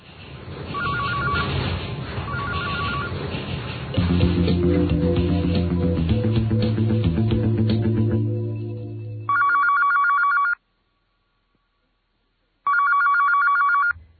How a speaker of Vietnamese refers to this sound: Điện thoại cứ việc reo